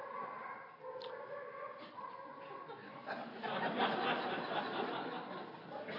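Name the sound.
dog barking and whimpering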